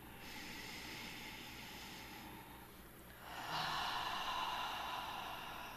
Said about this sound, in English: to take a deep full breath in through the nostrils. Exhaling out through the mouth with a sigh.